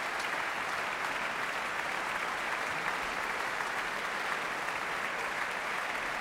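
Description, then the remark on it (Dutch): Steady, sustained applause from a large audience in the main hall of Amsterdam's Concertgebouw after a duet from Jules Massenet's opera Manon, a dense continuous patter of many hands clapping at even loudness for several seconds, with no voices audible. “Opvallend dat het publiek zoveel enthousiaster reageert op de Franse kant van de avond.”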